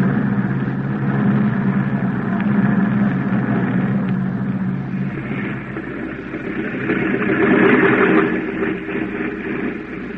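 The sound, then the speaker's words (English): A propeller airplane, the plane from Mexico City arriving at an airport, its engines drone steadily, a deep rumbling roar with a broad hiss on top that swells louder toward the end as the plane comes in. No voices are heard. “Hey, that must be the plane from Mexico City.”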